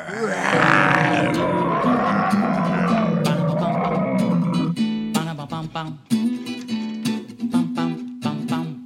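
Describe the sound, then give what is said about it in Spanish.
Fierce lion roars rumble loudly through the first few seconds over an upbeat musical backing. Rhythmic instrumental music with sharp percussive hits follows. “Con rugidos muy feroces. Todos estén muy atentos porque llegaron los leones.”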